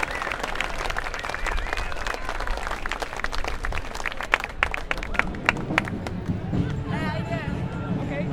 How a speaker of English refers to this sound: They did have lots of peace flags and a big banner reading, "How is the war economy working for you?" They were well applauded as they went by.